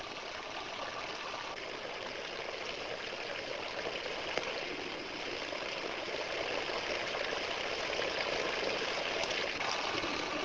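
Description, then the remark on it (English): Water trickles and drips in a steady, continuous stream in a Kelvin water drop experiment, moderately loud, with an even, unbroken hiss of falling droplets and no voices throughout. “Kelvin's water drop experiment demonstrates for us that not only does the motion generate the electric field, but that the field also has a strong influence on the motions.”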